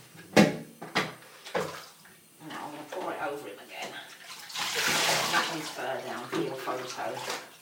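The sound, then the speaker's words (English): Water is poured over a young boy's head in a bath to rinse and flatten his hair, a rushing, splashy gush that swells midway and tapers off, after a few sharp knocks, with voices murmuring throughout. “Pour it over him again.”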